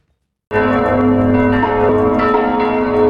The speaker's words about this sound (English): Church bells ring out across the Czech Republic to mark 1 year since the first COVID-19 death in the country.